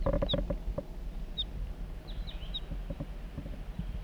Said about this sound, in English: So recording, I'm on my way down the hill and I've met up with crossbills, perhaps the same birds as before. Yeah, looks that way. A juvenile and the male, that's the male.